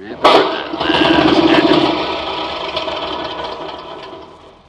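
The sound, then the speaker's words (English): A small lawnmower engine fitted with a magneto for quick starting cranks with a sudden loud burst, then sputters into a rapid, rattling chug that holds steady for a couple of seconds before gradually dying down. “Don't tell me. Tell the lawnmower.”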